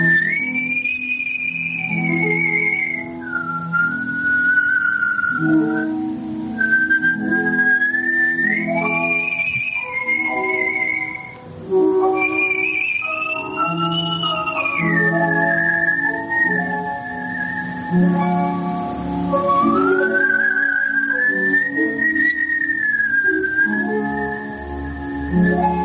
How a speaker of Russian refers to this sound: Прозвучало «Адажио из Лебединого озера», художественный свист и аккомпанемент